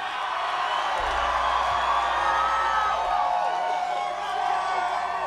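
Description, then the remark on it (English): A live audience cheers and whoops continuously, a dense wall of overlapping shouts and yells filling the space at steady loudness for several seconds. “Lights on this crowd, please.”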